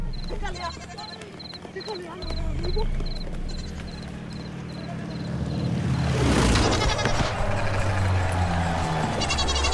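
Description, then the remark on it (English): Goats at an airport bleat in wavering, repeated cries over a steady high pulsing beep as they are driven into the path of an old Aeroflot TU-144; a loud rushing roar sweeps in midway and lingers under the continuing noise. “For at the airport the next morning, we demanded double the new market price for the goats we drove into the path of an old Aeroflot TU-144.”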